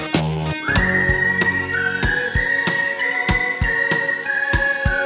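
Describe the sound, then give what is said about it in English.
A whistled melody rides high and steady over a bouncy musical backing, with regular drum thumps keeping a brisk beat underneath. The tune holds long notes with small pitch steps, and nobody speaks. “Whistling tunes, we hide in the dunes by the seaside.”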